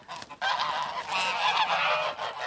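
Several geese honk loudly and continuously, their harsh nasal calls overlapping into a noisy chorus after a brief quieter start.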